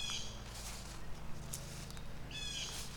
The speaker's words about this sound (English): Okay, why is there a bird freaking out over there? Is my owl buddy over there somewhere?